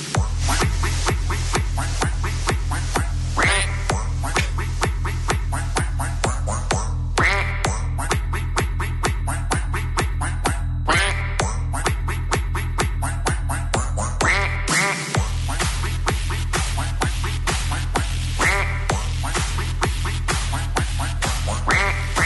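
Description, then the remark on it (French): Ducks quack loudly and almost nonstop, a dense run of rapid, repeated quacks with a steady rhythm and no pauses, with no talking. “Il est temps de vous souhaiter une bonne soirée, mais avant de partir, je ne pouvais pas partir sans vous laisser comme tous les vendredis avec une minute de coin-coin.”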